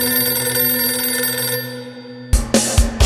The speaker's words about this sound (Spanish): Y oyó cómo sonaba el teléfono, pareciéndole que lo hacía con una fuerza inusitada.